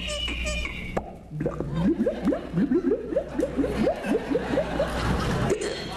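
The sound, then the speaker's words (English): A man vocally imitates water gurgling out of a bottle when the cork is pulled out, a rapid run of wet, rising glug-glug pops lasting a few seconds, fairly loud over a faint room hum. “And water gurgling, you know, when you pull the cork out of the bottle.”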